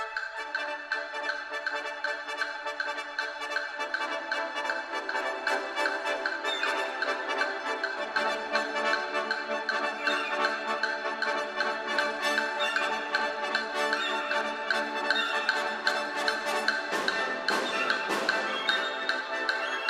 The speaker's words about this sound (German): Und ein amerikanischer Komponist, der hat ein Stück geschrieben für so eine ganz schnelle Maschine. Und das hören wir uns jetzt mal an, dieses Stück.